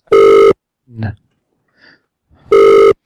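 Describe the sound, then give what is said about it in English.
A phone line rings twice, two steady half-second tones spaced about two seconds apart, with a brief low vocal grunt and a faint murmur in the quiet gap between them. “I don't think she's going to answer this time, guys.”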